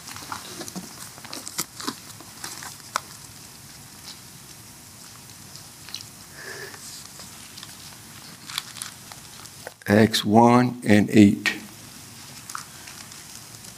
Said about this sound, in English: Boy, I love to hear them pages turn, boy.